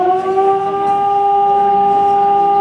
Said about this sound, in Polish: W Polsce mamy dwa rodzaje sygnałów. Alarm modulowany, jest to sygnał przywołujący, informujący o niebezpieczeństwie, jest to sygnał alarmowy. No i sygnał ciągły, odwołujący te zagrożenie, te niebezpieczeństwo.